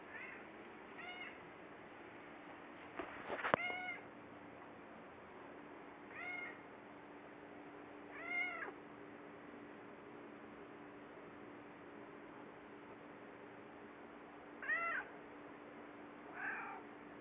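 A domestic cat meows repeatedly, about six drawn-out, moderately loud calls spaced irregularly over a steady low hum, with one sharp click partway through and no talking.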